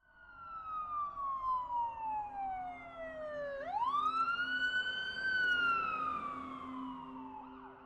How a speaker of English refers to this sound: The growing sound that accompanied my friend's anguishing screams was that of multiple sirens drawing closer by the second.